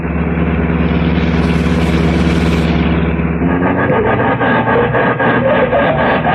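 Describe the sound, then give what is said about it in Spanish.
A heavy canvas-covered military truck, its insignia hidden, drives along a desert road through dry wasteland. Its engine drones steadily with a deep, rumbling low tone, then shifts midway into a rougher, rattling roar as it drives on, loud and continuous throughout with no voices. “El sol ha traspuesto la línea del cenit cuando un pesado camión con toldo, cuyas insignias militares han sido ocultadas, corre por un camino desértico.”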